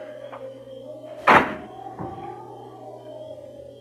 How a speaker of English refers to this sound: They sat there in the car perhaps 10 minutes before the car door slammed shut.